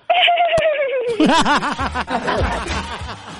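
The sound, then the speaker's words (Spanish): A person imitates a mare's whinny with their voice: a loud, high squeal that slides downward for about a second, then breaks into rapid, bouncing, laugh-like fluttering pulses. “A ver, dame un gritito de yegua, ¿cómo sería un sonido?”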